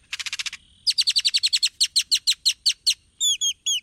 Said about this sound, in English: Great-tailed grackles are known for their long, expressive tails and their wide vocabulary of odd sounds.